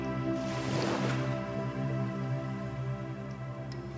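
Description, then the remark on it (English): A soft ocean wave washes in on the sand at the shoreline and swells briefly before fading back, leaving a low, steady hiss of surf beneath a sustained, humming musical drone. “You slowly stroll down to the shoreline, where the ocean meets the land and the waves crash gently against the sand.”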